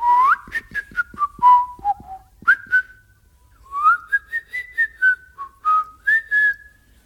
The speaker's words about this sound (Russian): Такой новинкой была особенная манера свистеть.